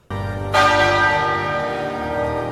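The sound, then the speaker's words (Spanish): Big Ben, the clock tower bell in London, tolls loudly, struck twice in quick succession, its deep, rich ringing hum sustaining and slowly fading with no voices present. It rang once each minute as the Queen's coffin was carried through the streets of London. “Luego el ataúd de la reina fue llevado por las calles de Londres, mientras el Big Ben tocó sus campanas 96 veces, una cada minuto.”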